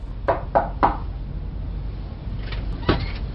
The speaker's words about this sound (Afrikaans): Wag, ek klop weer.